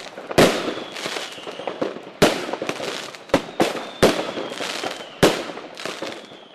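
Fireworks burst with a series of sharp, loud booms at uneven intervals, each followed by crackling and fizzing that fades before the next explosion. No one speaks.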